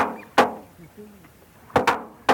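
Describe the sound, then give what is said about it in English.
A musk duck, raised at a reserve in Australia, mimics a slamming door: four sharp, wooden bangs, one early and then a quick cluster of three near the end, each with a short ringing decay. “was also recorded mimicking a door slamming.”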